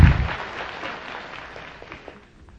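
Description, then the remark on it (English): A crowd bursts into applause after reciting the ten plagues, loud at first with dense overlapping claps, then thinning and fading over a couple of seconds as scattered claps trail off. “You can clap to your hand. You did it great.”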